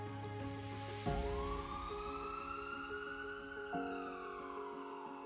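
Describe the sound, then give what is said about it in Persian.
An ambulance siren wails loudly, its pitch sweeping up and holding in a long rising-falling tone over a steady low rumble, with no talking. “صدای آژیر شما نوید بخش حضور فرشتگان زمینی است، همان فرشتگانی که با عشق و تعهد در سخت‌ترین لحظات دست یاری به سوی ما دراز می‌کنند.”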